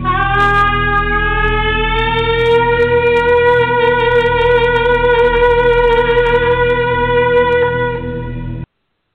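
A trumpet blown in one long, loud, brassy note during a church phone gathering, held steady for over eight seconds, drifting slightly upward in pitch before cutting off abruptly. No one speaks.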